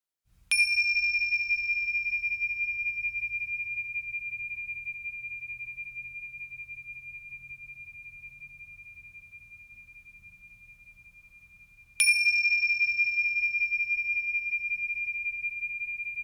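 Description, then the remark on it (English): A meditation bell is struck twice, about eleven seconds apart, each strike ringing out with a clear, sustained tone that slowly fades into quiet. No voices are heard. “Listening to the sound of the bells for as long as you can hear them, and following that sound into silence.”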